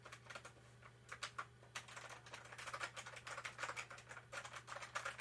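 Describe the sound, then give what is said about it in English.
Rapid, continuous clicking of keys on a mechanical keyboard, fairly loud, with irregular bursts of keystrokes over a steady low electrical hum. No one speaks. “It's a mechanical keyboard, you know.”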